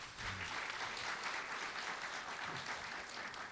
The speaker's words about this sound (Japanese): 今一度盛大な拍手をお願いします。